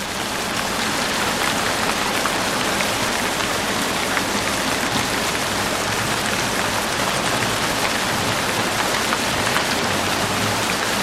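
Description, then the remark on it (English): Steady, heavy storm rain pours down without pause, a dense hiss of countless drops drumming on surfaces at a constant loud level, with a low rumbling undertone and no voices. “In the matter of a single night, while the storm rages in its fury, the tempest and the thunder of the furious elements in conflict.”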